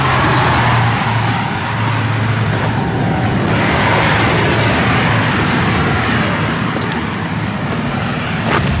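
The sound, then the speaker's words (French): Loud, continuous road traffic noise with a deep engine rumble and steady tire roar, as the road passes a 2 km line of huge parked construction trucks on the way into Abu Dhabi, with no voices. “Cette file de camions, il y a 2 km de camions. On vient de franchir un parking de 2 km d'énormes camions de construction,”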